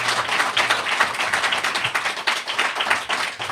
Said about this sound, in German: Ich würde die Runde da schon mal beenden und ein kleiner Applaus für die drei Kandidaten.